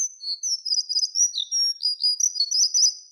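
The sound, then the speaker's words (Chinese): A small bird chirps and twitters continuously in quick, high-pitched bursts with brief pauses, from a very tall tree beside an animal cage, clear with no other sounds around it. “在呢个时候，在兽笼旁边一棵好高大的树上边，传嚟一阵吱吱喳喳的鸟叫声。”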